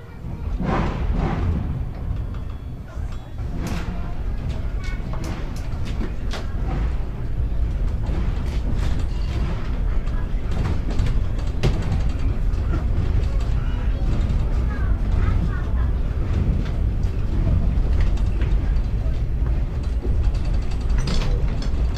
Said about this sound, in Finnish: No niin, juna saatiin liikkeelle.